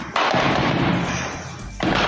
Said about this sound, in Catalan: A la capital, Bamako, s'han sentit ràfegues de trets i el govern ha demanat a la població que es quedi a casa.